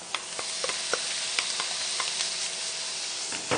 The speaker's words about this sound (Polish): Teraz menma, czyli marynowane pędy bambusa. Też delikatnie można podsmażyć.